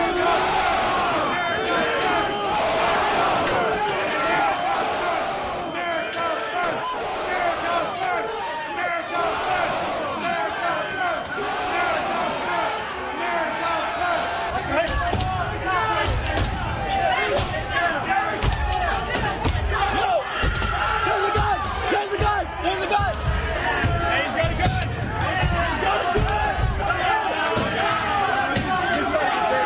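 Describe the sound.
A dense riot crowd turning on police and spraying them with mace roars and shouts continuously, a chaotic din of many voices, while an officer pinned by a metal door screams for help; heavy low thuds and pounding join in during the second half.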